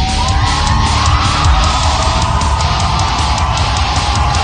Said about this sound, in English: The crowd yelling out encouragement.